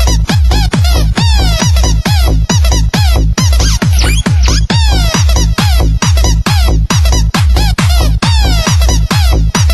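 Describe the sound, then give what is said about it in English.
A squeaky toy duck quacks and squeals nonstop, loud, firing off rapid, pitch-bending honks in a steady frantic rhythm for the whole stretch, with no voices. “Crazy duck toy, boy.”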